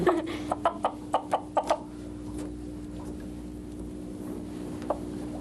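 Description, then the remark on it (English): A chicken, being calmed by a finger moved back and forth past its eyes, lets out a quick run of about seven short, sharp clucks, then falls mostly quiet apart from one last cluck, all over a steady low hum. “if you run it past his eyes and go back and forth past his eyes, it gets the chicken really calm”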